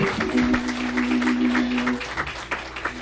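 A crowd claps loudly in a dense, sustained wave of applause for a few seconds, with a steady low hum running underneath, applauding the Lord during an evening church worship service.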